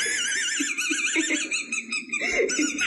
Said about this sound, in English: Somehow he swallowed the squeaker of that toy. And because it's 2022, his mom recorded the entire thing and it's gone viral. So this is a kid with the squeaker from a dog toy lodged in his esophagus?